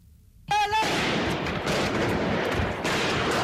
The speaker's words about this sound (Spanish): 7 de enero del 2015, día en el que los hermanos Kouachi entraron en la redacción del semanario, efectuaron 30 disparos con fusiles Kalashnikov y mataron a 12 personas, otras 4 resultaron heridas.